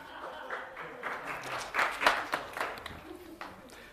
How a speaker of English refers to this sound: All right, thank you very much. Big round of applause.